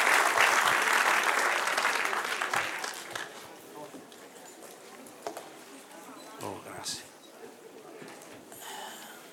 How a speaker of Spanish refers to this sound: Denle un aplauso al que reina y vive para siempre.